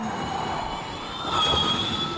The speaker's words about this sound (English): And when you can hear, obviously there's the whine of the motors themselves, not the roar like a traditional motor, but that whine.